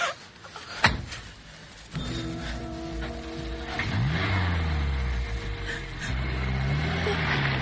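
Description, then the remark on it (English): After a sharp thud, a car engine starts up and revs, its pitch climbing as it accelerates, then holds a steady loud drone through the end. “Now get into the car.”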